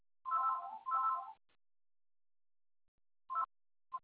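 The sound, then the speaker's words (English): Telephone keypad tones: two longer beeps back to back, a pause of nearly two seconds, then two short beeps. The tones are clear, with no talking. “Hang on. I'll disconnect that phone. Oh, it's stuck anyway.”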